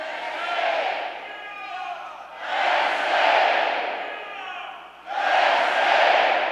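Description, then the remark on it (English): A huge arena crowd at the Bryce Jordan Center roars Penn State's call-and-response chant: three loud surges of massed shouting voices, each swelling and fading in turn as one side calls and the other answers. “The crowd cheered, and then someone started Penn State's famous call and response.”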